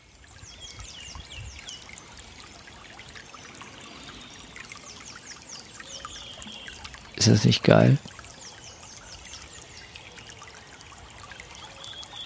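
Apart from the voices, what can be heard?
small brook babbling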